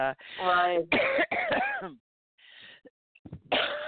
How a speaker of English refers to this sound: I'm better, finally. Still coughing like a 70-year-old smoker, and that's a little discerning since I never did any of that.